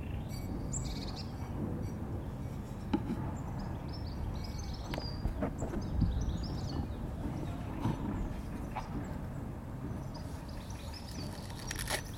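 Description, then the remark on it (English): Outdoors, birds chirp and sing in short, scattered phrases over a steady low rumble of ambient noise, with occasional soft crunchy clicks of someone crunching an apple. No one speaks. “Anyway, I'll let you listen to the birds for a minute.”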